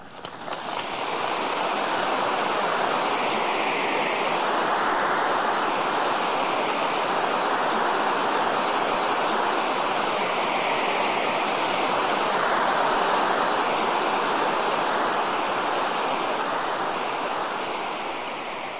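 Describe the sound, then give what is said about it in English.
A crowd of over 16,000 at Riverfront Coliseum in Cincinnati in the mid-1980s applauds and cheers in response to a message by Dr. James Dobson: a dense, continuous roar that swells in quickly, holds steady and loud for nearly twenty seconds, then eases slightly at the end. No one speaks. “Well, that was the enthusiastic response to a message by our host, Dr.”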